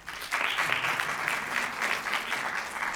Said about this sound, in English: clap your hands if you've heard it.